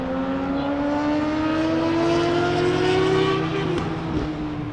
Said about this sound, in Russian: Мотоциклисты-пидорасы.